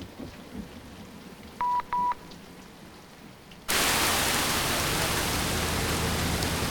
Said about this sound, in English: Headlights blaze through the teeming rain.